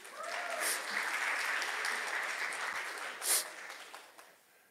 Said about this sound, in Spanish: Un aplauso